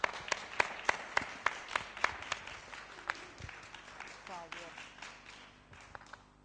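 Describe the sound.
A game show audience applauds the black team's contestants with a steady patter of overlapping claps, loud at first and then thinning out gradually; a brief voice rises over the clapping toward the end.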